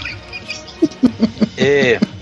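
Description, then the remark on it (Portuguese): A quick run of four short, dry coughs, then a drawn-out squeaky wheeze and one final cough, with no talking. “Pera que eu tô tossindo.”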